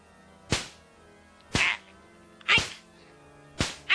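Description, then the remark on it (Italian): Four sharp riding crop strikes land about once a second, each a crisp smack with a quick decay and quiet pauses between, no voices present. “Oh, e la frustiamo noi, guardi.”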